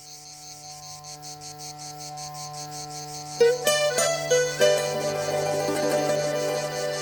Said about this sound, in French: C'est la chanson des cigales, pendant que les fourmis travaillent. Les cigales, elles se régalent, les doigts de pied en éventail.